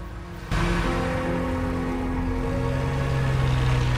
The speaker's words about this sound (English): Claire walks towards them, and as Gretchen reverses her car, the carnival lights reflected in her back window disappear.